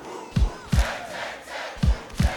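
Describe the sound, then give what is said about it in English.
A crowd chants together in a loud, rhythmic call, with heavy claps or stomps landing in pairs, four hits in all, under a roar of many voices. “Tang, tang, tang, woo, tang, tang, tang. Now clap with it like this.”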